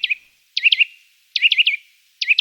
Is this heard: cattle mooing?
no